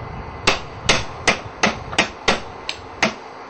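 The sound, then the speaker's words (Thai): Ingredients are lightly pounded with a mortar and pestle, just enough to crack them rather than grind them fine: about eight sharp, knocking thuds land in a steady rhythm, roughly two per second, one noticeably softer, with no voices. “ถ้าคนชอบเผ็ดมากก็ตำหรือว่าเข้าเครื่องปั่นให้ละเอียดจะก็เผ็ดขึ้นหน่อยแต่ผมจะแค่บุกเฉยๆแค่ทำให้มันแตก”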